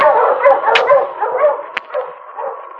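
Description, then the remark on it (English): A dog whimpers and whines almost continuously, broken by a couple of sharp, short barks, fairly loud, with no one talking. “The intelligent dog knew Sergeant Preston needed help and was heading back down the ravine to find him”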